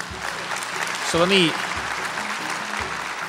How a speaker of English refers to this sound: You've got a lot of people in this crowd cheering for you when you say that. I paid for 50% of them.